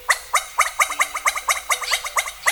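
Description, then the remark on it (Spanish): A black-throated huet-huet calls very close by in the dense humid forest of southern Chile, a rapid series of about ten harsh, barking notes in a steady rhythm, loud and alone with no talking. “Cuando en las partes más espesas del bosque húmedo del sur de Chile se escucha esta voz, significa que está muy cerca un wet-wet.”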